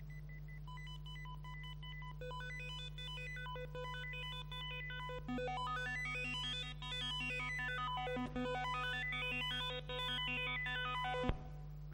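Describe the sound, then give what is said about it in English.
Synthesized square-wave music, a simulation in the minimalist style of composer Philip Glass: bright buzzy tones repeat in tight patterns over a steady low drone, with fast arpeggios sweeping up and down in arcs before cutting off abruptly. No one speaks. “The first is a Philip Glass simulation, like the composer Philip Glass does music that sounds very fractal, which is this.”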